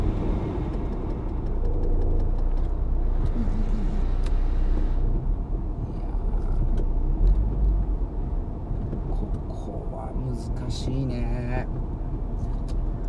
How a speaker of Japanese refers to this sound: だってもうロシア大使館の向かい側なんてもううるさくてしょうがないよね。いろいろそういう車通ったりとかするからさ、無理だよね。